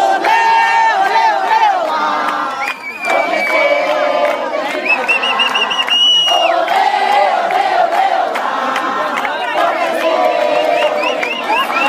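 A large crowd of at least 1,000 protesting teachers shouts and chants together in a sustained, loud roar during a speech by Fernando Pimentel, voices rising in rhythmic bursts with piercing whistles cutting through at moments.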